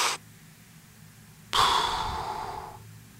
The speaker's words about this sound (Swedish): Första gången så kanske man andas så här. Och så försöker man nästa gång ta det lite lugnare.